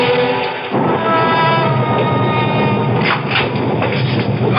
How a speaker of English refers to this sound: What a storm. Devil's out walking tonight. I hear it, Sheriff.